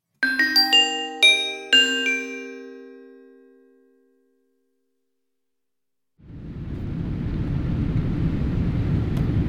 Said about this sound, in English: This conversation takes place during a flight to Germany.